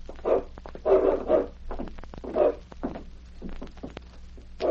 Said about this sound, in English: What about that dog in the back room